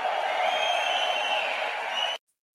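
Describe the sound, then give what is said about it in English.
A large crowd cheers and roars steadily for about two seconds in response to the vice president's remark about firing Gary Gensler, a dense, loud wash of voices and whoops that cuts off abruptly into silence. “Yeah, the crowd always likes when you give a reference to firing Gary Gensler.”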